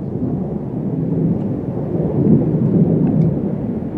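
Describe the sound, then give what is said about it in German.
Rain begins to fall, a steady hiss throughout, fairly loud, with a deep, rumbling undertone like thunder and a few faint sharper ticks near the end. “Sie flüchtet vor dem einsetzenden Regen in ein Café.”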